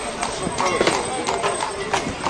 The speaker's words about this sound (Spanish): Y que en ese Albacete los carros, los caballos, las mulas, eran el sonido más habitual de sus calles.